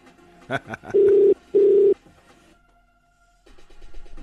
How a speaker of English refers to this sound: If your numbers have fives and eights, stay close to your phone because I'm calling you right now.